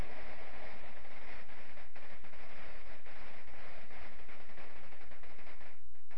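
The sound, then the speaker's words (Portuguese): Heavy rain starting again during a Bible reading, pouring steadily, a dense, loud hiss with constant crackling patter and occasional sharper pops, continuing without pause and with no voices. “Aí a chuva de novo.”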